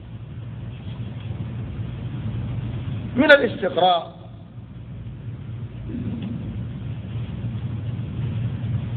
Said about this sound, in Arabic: هناك طائرة